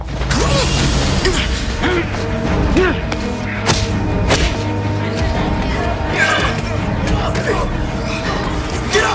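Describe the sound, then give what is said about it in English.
A busy fist fight: one man lunges at another, brings him to the floor, sits on top of him and punches him; dull thuds and thwacks land irregularly amid shuffling, creaking and strained vocal grunts, with a steady background hum throughout. “… lunges at …, bringing him to the floor, then sits on top of him and punches him.”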